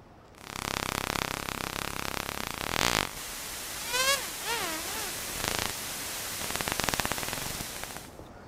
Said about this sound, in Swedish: Hur låter det här klickljudet då som tumlarna gör? Här kommer ett litet exempel där man först hör ekolokaliseringsklick och sen går det lite snabbare, och det är när tumlaren tar ett byte.